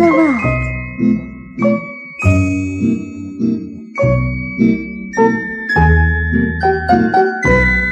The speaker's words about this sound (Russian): И было слышно, как тонко звенят золотые колокольчики на девочкиных длинных руках.